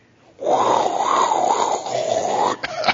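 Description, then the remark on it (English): Several voices make a long, wavering 'whoooo' to imitate howling wind, rising and falling in pitch for about two seconds, loud, then breaking off into a couple of short vocal bursts. “What noise does the wind make?”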